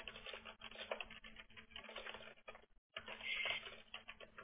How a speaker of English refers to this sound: I'm typing all this out. Give me just a second.